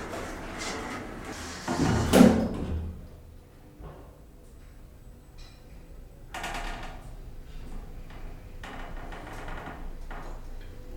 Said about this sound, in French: Fermeture des portes.